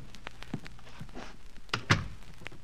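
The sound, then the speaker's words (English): A door swings shut with a single solid thunk, preceded by a few soft clicks and shuffling knocks, with no voices. “Close the door.”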